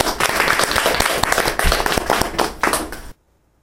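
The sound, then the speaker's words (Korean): A group at a recovery meeting bursts into applause to welcome a speaker who shared their recovery, many hands clapping at once in a dense, steady patter for about three seconds before it stops abruptly, leaving silence. “우리 박수 환영합시다.”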